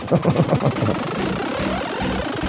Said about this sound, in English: Is this dubstep? Yeah. All right. All right. I think it is. Step a double time. Yeah. I need. It's a laser chainsaw.